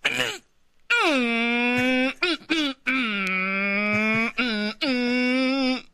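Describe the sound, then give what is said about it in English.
A voice imitates a loud 3-speed manual Ford car with a 1500cc engine revving and shifting gears, with sustained droning engine-like tones that drop in pitch, break off briefly, and resume several times in quick succession. “And that car, whenever he shifts, I'm not kidding.”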